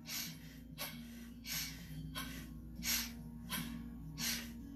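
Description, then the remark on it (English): Quick, sharp nasal breaths in and out, like sniffles, done as a breathing technique to purify the lungs, repeat in a steady rhythm about seven times, clear over a soft sustained musical drone. “So the breath out is just like a sniffle out, and the breath in is just like a sniffle in.”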